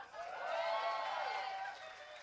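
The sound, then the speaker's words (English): Audience applause at a live gig on a Sunday, the crowd applauding themselves for coming out, mixed with loud cheering and whooping voices that swell and fade over about two seconds, the massed shouts carrying a wavering, rising-then-falling pitch. “And last but not least, can we give a round of applause to you lot for coming out on a Sunday, knowing that you're going to call in sick tomorrow.”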